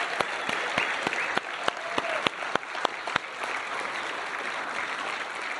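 An audience at a church Christmas service breaks into applause for everybody who helped make the day happen, a dense wash of clapping with a few sharp, distinct claps standing out early on, holding steady without voices.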